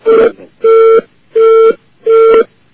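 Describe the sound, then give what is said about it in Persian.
A phone line's busy tone after a dropped call from Iran: four steady beeps at an even pace, each about a third of a second long, loud with a slightly distorted telephone quality. “اینا همه از ایرانه که قطع میشه.”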